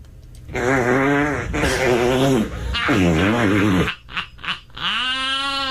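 A voice imitates farting with several drawn-out, buzzy, wavering blasts, loud, followed by a few short sputters and one final rising toot.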